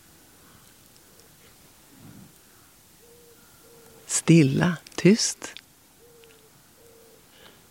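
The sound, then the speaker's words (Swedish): Soft, low cooing of wood pigeons repeats in short phrases over a quiet background on a still, lightly misty morning, with a brief spoken whisper breaking in midway before the gentle calls resume. “Ringduvorna pratar på.”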